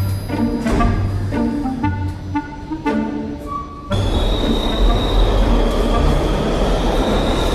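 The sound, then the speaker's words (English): A subway train in the United States rumbles loudly past with harmonic tones, then a dense roar of wheels on track takes over, topped by a sustained high-pitched wheel squeal. Continuous, with no voices. “I remember taking trains in different countries”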